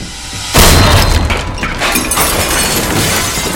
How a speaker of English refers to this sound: An axe smashes through the door.